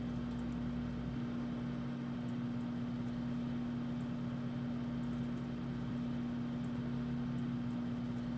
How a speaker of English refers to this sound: I love waiting for the microwave to be done.